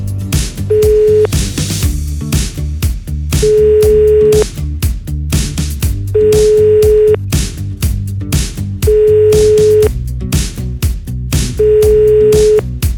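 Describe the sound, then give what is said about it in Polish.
Five ringback tones from an outgoing phone call to a prize-game contestant repeat at steady intervals, each a clear sustained beep, over a continuous background music bed, with no one answering. “No niestety, 5 sygnałów minęło. Ktoś, do kogo właśnie dzwoniliśmy, widocznie był zajęty”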